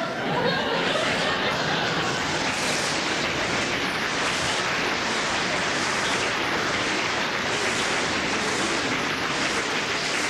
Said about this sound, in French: Voilà, des applaudissements.